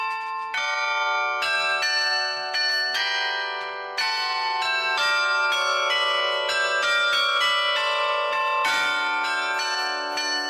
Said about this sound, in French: Est-ce que vous pouvez nous présenter cet instrument? Alors, le carillon, c'est un instrument à clavier, comme un clavier de piano.